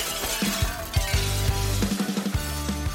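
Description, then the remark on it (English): Light bulbs shattering in a rapid series of sharp, bright glass pops and crashes, with tinkling shards ringing between the loud bursts and no voices. “Bala looks up and takes his roomies like out of the Roombas and goes and just like kind of like a inflatable tube man like style hands and just starts waving them to hit all the light bulbs out. So now we're in the dark.”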